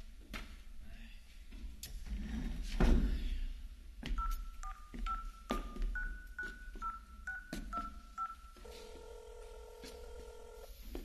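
Some brief handling noises, then a quick run of about a dozen beeping keypad tones as a phone number is dialed, followed by a steady, continuous ringing tone on the line.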